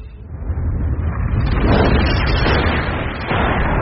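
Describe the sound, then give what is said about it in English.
A meteor is destroyed in a massive explosion that roars and rumbles continuously for several seconds, loud, with a thick, noisy blast that swells slightly midway and carries no voices. “There goes the meteor!”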